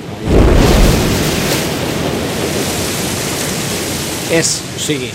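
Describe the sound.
A steady, loud roar of a waterfall and rushing water fills the whole clip, broad and continuous, as the current carries a floating barrel over the falls. A heavier surge comes at the start and brief voices break through near the end.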